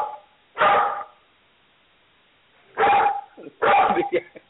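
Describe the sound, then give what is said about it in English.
A dog barks three times in the background, loud and sharp, with a long pause after the first bark and the last two coming close together. “And then your dog is barking in the background because they know that you garbage.”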